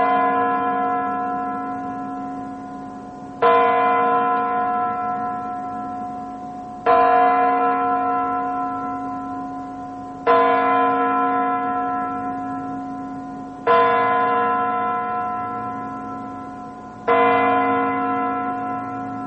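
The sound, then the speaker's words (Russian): A clock strikes midnight with deep, resonant bell tones: six evenly spaced chimes about three and a half seconds apart, each ringing out and slowly fading before the next. No voices. “Двенадцать ударов часов для мировой культуры – это, конечно же, звук сакральный.”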